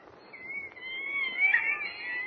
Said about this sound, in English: Listen to those monkeys chatter, Jimmy. They're the ones I was telling you about. Professor Nelson and Dr. Stone use them for experimental purposes.